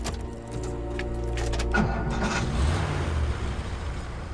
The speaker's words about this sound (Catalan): Engega el cotxe i ves tirant. Ella fica la clau al contacte i la gira.